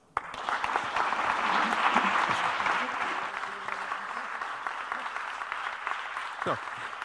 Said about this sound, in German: Und das ist Ihr Applaus.